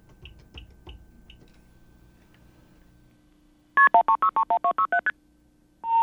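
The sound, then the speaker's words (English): A quick run of about ten short MF tones from an old automated intercept system (AIS) on a dialed phone call, each a bright two-note beep at a shifting pitch, follows a few faint clicks. A steady single tone begins right at the end. “Those are MF tones. That is, according to this reader, an old automated intercept system, AIS,”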